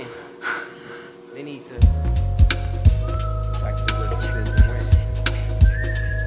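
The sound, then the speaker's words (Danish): A hip hop music track with a steady thumping beat and deep bass, with a thin, high whistled melody gliding over it; a brief breathy vocal sound comes just before the music starts. “Og så fløjte.”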